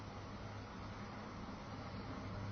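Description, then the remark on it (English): A soft, steady wash of traffic, a continuous low rumble with airy hiss and no distinct passing vehicles, faint and unbroken throughout. “And be aware of the traffic noises and the slight breeze in the air.”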